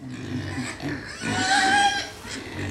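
pig grunting

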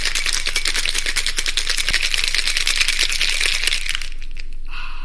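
cocktail being shaken

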